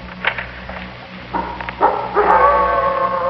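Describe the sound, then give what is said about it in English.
A wolf lets out a few short yelps, then a rising, sustained howl that swells louder and holds a steady wavering pitch to the end, with no talking. “The wolf.”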